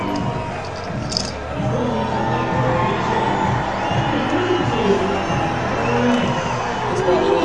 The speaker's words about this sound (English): Fans are going to get into it because they haven't had much to cheer about in this game, that's for certain.